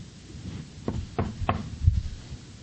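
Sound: knocking on a door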